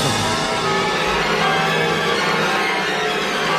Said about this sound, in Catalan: Senten les campanes per aquí.